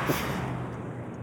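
A steady, close rumble of a car driving, heard from inside the cabin, with a low engine drone and constant road noise and no voices.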